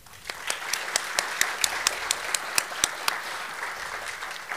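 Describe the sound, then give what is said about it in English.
An audience at a candidates' forum in the Estill County High School Auditorium applauds the candidates for Estill County Clerk, a dense wash of many hands clapping with a few sharp, louder claps standing out at an even rhythm throughout. “Please give one final round of applause to our candidates for Estill County Clerk.”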